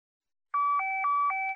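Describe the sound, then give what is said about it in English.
A mobile phone's low battery warning: four quick electronic beeps alternating between a higher and a lower pitch, clear, with no one speaking. “Sorry, I need to switch off my mobile phone. The battery is low.”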